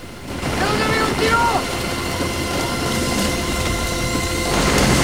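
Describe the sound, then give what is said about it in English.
A helicopter comes in to land in a jungle clearing in the rain under a dark sky, its loud, steady roar of rotor wash whipping the rain and plants around and filling the whole clip, with a few brief whistling tones rising and falling early on. “The chopper comes into land in a clearing, whipping the rain and jungle plant life around Beckett and Miller.”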